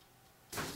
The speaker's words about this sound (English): I've just turned the tape recorder back on.